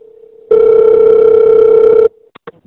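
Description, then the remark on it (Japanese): A loud, steady telephone ringback tone plays once for about a second and a half, then cuts off, followed by a couple of faint clicks on the line, as a customer center call is transferred as an emergency report to the Fukuoka Prefectural Police headquarters in Japan. “では、もうおつなぎいたします。”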